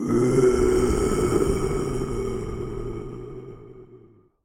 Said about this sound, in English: A big tiger growls.